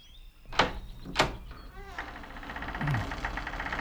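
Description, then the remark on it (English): Two heavy clunks ring out, then a low groaning creak as an old, heavy, unlocked door in a castle swings open, followed by a steady rumbling, grinding noise that carries on to the end. “Oh, it's not locked. Feels like it hasn't been opened in centuries.”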